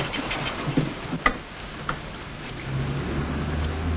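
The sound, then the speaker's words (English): A low engine rumble of two approaching cars swells in the second half, rising beneath steady rain-like patter and a few sharp clicks, with no one speaking. “Is that a car coming? Two cars, I think.”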